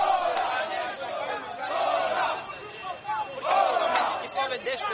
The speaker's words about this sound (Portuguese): O grito dos manifestantes foi ouvido longe das ruas mais movimentadas, uma vez que a polícia alterou o percurso para a insatisfação dos promotores